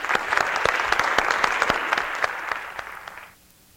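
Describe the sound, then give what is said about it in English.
An audience applauds two men steadily, with dense overlapping claps and a few sharp individual ones, then the clapping quickly dies away into near silence after about three seconds. “Let's hear it for these two guys here.”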